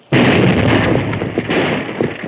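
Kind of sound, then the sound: sound effect, blasting powder explosion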